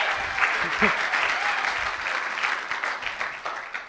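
An audience breaks into a steady round of applause, dense overlapping clapping that stays loud and fairly even throughout, with a few faint voices mixed in underneath.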